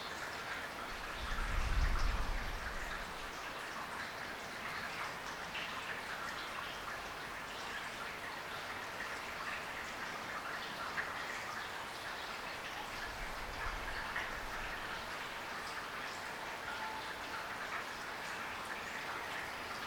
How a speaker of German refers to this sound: Und dann könnt ihr ein wenig dem Regen zuhören. Und wenn ihr merkt, dass ihr wegdriftet, das freundlich wahrnehmen und mit der Aufmerksamkeit wieder zum unmittelbaren Hören des Regens zurückkommen.